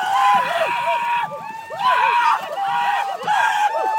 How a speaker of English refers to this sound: When the canoe comes ashore at the end of the day, supporters who follow along on land are there to cheer.